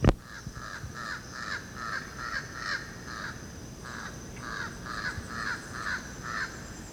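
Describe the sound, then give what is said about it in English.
A single jabbering crow, flying across an open space, calls in a steady run of harsh, nasal caws, about a dozen in quick succession, each short and raspy, over faint background hiss with no talking. “That's Jabbering Crow.”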